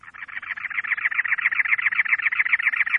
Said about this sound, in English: By contrast, a cactus wren building a nest in early March orients the entrance away from the cold winds of that season, keeping the chicks snug and warm.